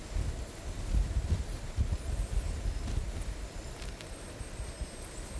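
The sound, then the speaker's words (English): Infrasound recordings of the world around us, 24 hours sped up to play back in 4 minutes, making very low sounds audible: a continuous, deep rumbling roar with a churning, pulsing texture and faint hiss above it, steady in loudness throughout, with no voices. “When sped up like this, very low sounds we normally can't hear become audible, revealing a whole set of infrasonic rhythms and rumblings in the world around us.”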